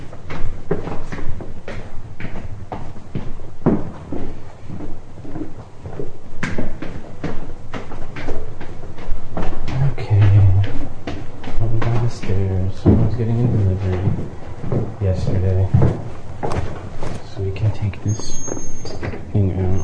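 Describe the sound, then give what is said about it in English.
A metal door is opened and shut with a series of sharp clanks and rattles, while a person talks over much of it. “There's my metal door”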